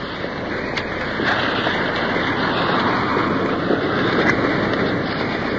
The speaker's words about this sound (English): Coming up to the first waterfall. Pouring into a deep pool.